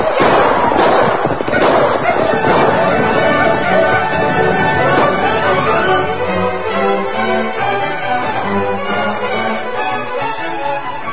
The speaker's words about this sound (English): Lone Ranger and Tonto, his faithful Indian companion, were reined up near a waterhole when they heard the distant gunfire. It come from that way.